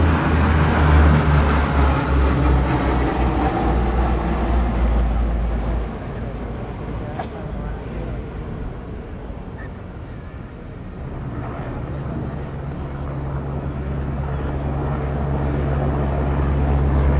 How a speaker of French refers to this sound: C130 Hercule, masse à vide 34 tonnes, vitesse maximale 600 km/h.